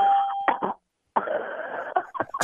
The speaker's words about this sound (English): But then the car stalls.